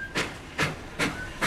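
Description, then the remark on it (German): Rhythmic bursts of hissing air or steam, four broad puffs spaced roughly evenly, like a Trans-Siberian Railway train's brakes or pneumatics venting at a platform in Moscow, with a faint tone between bursts. “Die transsibirische Eisenbahn, kurz Transsib, verläuft über zwei Kontinente, passiert das Uralgebirge, die natürliche Grenze zwischen Europa und Asien.”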